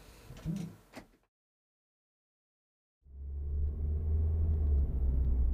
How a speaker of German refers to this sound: mit dem Auto über die nass geregnete Landstraße fuhren.